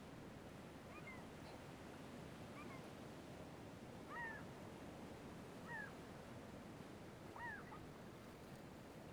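Black-tailed gulls give about five mewing calls, spaced a second or two apart, over a steady roar of surf that fills the whole scene.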